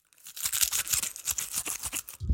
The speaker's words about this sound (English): Okay, so I brought 3 cloves, and I'm going to put them all in the garlic peeler. Okay. Oh, should I hold it up to the microphone so everybody can hear?